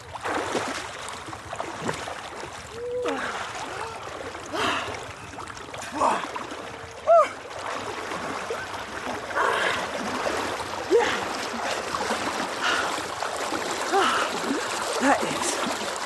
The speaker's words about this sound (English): But I just have to do one more thing because I haven't fulfilled the full task of a river swim, which is you haven't done a proper wild swim unless you put your head under the water.